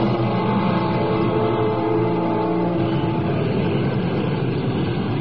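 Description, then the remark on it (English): A loud, steady engine roar with a low droning hum and layered tones, holding constant throughout like an airplane taking off, continuous with no voices. “But as I take off, I have this deep foreboding and a secret wish in my heart that the plane would crash and there would be no future for me.”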